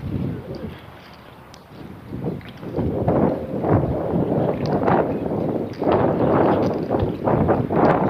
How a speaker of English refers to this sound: It's coming out of the southeast. I'll put my back to it here in a minute. It's cold. It is really raw. The ambient is 40, but that wind is really kicking.